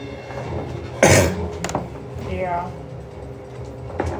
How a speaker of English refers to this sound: Dude, I've still got a cough, too. Sucks.